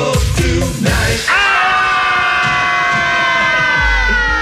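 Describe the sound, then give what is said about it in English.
A crowd screams together in a loud, sustained roar, with a few sharp shouts at the start before many voices swell into one long, high-pitched scream that carries on to the end. “Okay, everybody scream this part.”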